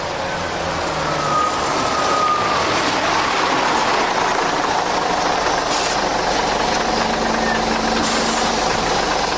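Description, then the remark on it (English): A large bus engine idles steadily in Medina, the bus ready to leave for Mecca; a continuous low rumble with a broad hiss on top that stays fairly loud and unchanging throughout, with no clear voices. “I think our bus must be ready to leave for Mecca.”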